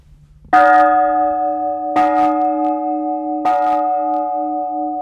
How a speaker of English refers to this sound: This bell right here came from Spain, we believe. And it says, St. Francis of Gabriel, ora pro nobis, pray for us, 1727.